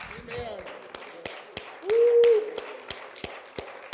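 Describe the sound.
An audience claps hands in praise to God in a steady, even rhythm, roughly three sharp claps per second, while a voice calls out and holds a sustained note over the beat.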